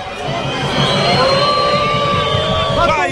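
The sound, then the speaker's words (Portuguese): A large stadium crowd at the VGD in Londrina boos the home team loudly and steadily at the end of a match Londrina lost to Novorizontino, a dense roar of many voices filling the space for a few seconds, with scattered whistles and shouts rising above it. “Vaias pro time aqui no VGD, hein?”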